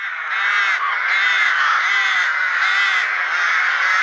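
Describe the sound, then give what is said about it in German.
Harsh, hoarse rook calls fill the whole recording, a loud continuous raucous chorus with slight rises and dips, like several birds cawing over one another. No one speaks. “Es ist ein bisschen herber als der normale Ruf von Rabenkrähen oder Nebelkrähen. Ich würde sagen, es ist die Saatkrähe.”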